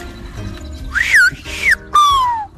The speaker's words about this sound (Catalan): Mi nombre es …, yo lo puedo decir hablando, lo puedo decir gritando o cantando, pero también lo puedo silbar.